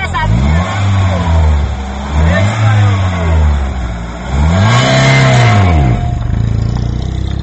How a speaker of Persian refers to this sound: دیروز جوانی که صاحب ماشین سبکروی نوع لکسوس است گاه گاهی ماشین را از جای ایستاده یک بار با سرعت بلند به پیش میراند. در چنین حالت ماشین یک بار از جای جهیده صدای بلند میبرارد و به پیش پریده با سرعت بلند حرکت میکند.